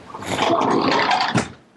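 A door swings shut with a drawn-out, rough grinding creak lasting over a second, ending in a short heavier knock as it closes. Fairly loud, with no voices.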